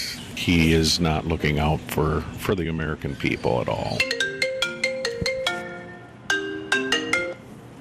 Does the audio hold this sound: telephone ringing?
yes